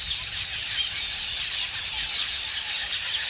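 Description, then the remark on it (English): A huge flock of a couple million red-billed quelea swirling in unison and calling, a dense, continuous wash of high-pitched chirps and twitters blending into a steady roar, with no voices. “But setting aside their taste for crops, the sight of a couple million red-billed quelea swirling in unison and creating ever-changing patterns in the air is one of nature's most amazing spectacles.”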